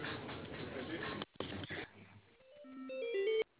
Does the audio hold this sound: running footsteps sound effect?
no